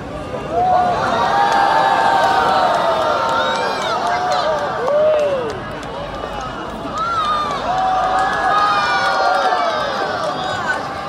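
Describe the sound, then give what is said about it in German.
A large crowd of spectators at a rocket launch cheers and shouts continuously, many voices overlapping in rising and falling whoops, the roar staying loud throughout and swelling again in the second half. “Man hört, die Zuschauer haben richtig mitgefiebert.”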